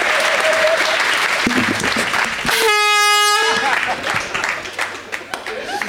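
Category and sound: sound effect, air horn blast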